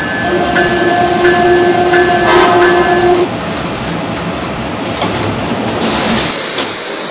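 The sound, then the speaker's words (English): A passenger train, train number 182, the Congressional, arrives at a station from Washington on track number 2 with a loud, steady rumble and hiss. High sustained tones ring over it for the first few seconds, then fade while the rolling noise continues. “Now arriving from Washington on track number 2, train number 182, the Congressional.”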